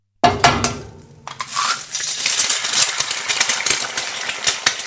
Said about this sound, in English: She's cooking. She's cooking. Excellent. Well done. How is she cooking and what is she cooking? I thought she's frying eggs. She's frying eggs.